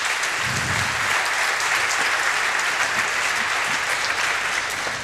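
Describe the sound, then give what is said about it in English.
An audience claps steadily after a research presentation, a dense, even wash of applause that stays loud throughout without pause or voices. “Yeah, but first, yeah, please give another big round of applause for this awesome research.”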